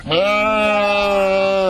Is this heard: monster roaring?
no